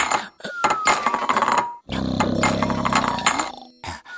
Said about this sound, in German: Miwau, das ist ja fast Musik. Miwau schlägt Topf an Topf, bis ihr einer aus dem Pfötchen fällt.